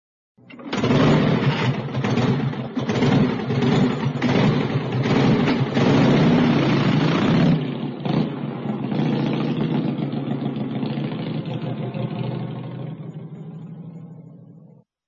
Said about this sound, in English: Is that a bike? No, it's a motorbike. It's a motorbike.